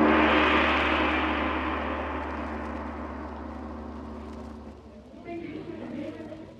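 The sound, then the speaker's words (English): A car engine runs with a steady low rumble, then pulls away, the sound gradually fading as it drives off. “I have a car waiting.”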